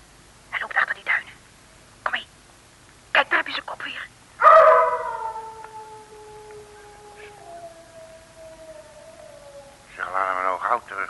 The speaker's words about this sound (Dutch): Het is maar een hond.